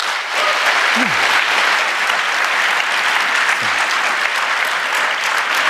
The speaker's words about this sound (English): Please give them a warm applause.